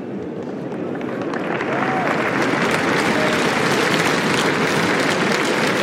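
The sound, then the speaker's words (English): Sustained applause from a large stadium crowd at Roland-Garros for Anastasia Pavlyuchenkova after she qualified for the quarter-finals, a dense, steady wash of clapping that swells slightly and continues loudly throughout, with no talking over it. “Merci d'applaudir, mesdames et messieurs, Anastasia Pavlyuchenkova, qualifiée pour les quarts de finale de Roland-Garros.”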